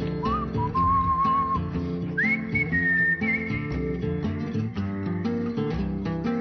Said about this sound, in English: Everybody whistle!